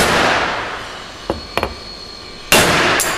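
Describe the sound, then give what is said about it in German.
A hammer slams hard into a shiny sheet steel part shaped at room temperature with a loud, ringing clang that fades, leaving a dent about 1-2 mm deep; then a metal screw clamp clatters down in a few quick knocks before two more heavy hammer blows ring out. “So, jetzt habe ich hier so fest draufgehauen, dass eine Schraubzwinge abgefallen ist.”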